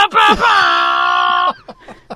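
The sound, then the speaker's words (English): A person imitates a foghorn with their voice: one loud, steady, droning note held for about a second, then a few short, faint breathy sounds. “I can do a foghorn interpretation very well.”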